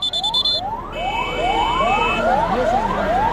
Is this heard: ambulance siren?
yes